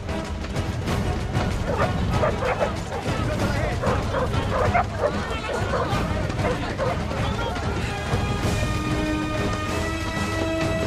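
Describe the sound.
A tracker dog, offered a sniff of clothing by its handler, barks and yips in repeated, loud bursts, with occasional whimpers, over a dense, busy background of other noise and indistinct voices, as troops pursue Rambo through a forest.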